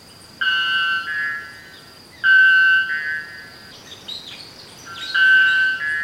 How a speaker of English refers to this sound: If you're a female bellbird, you land close to this guy, he faces you and hits you point blank with 125 decibels. Whoa. Yeah. So that sound.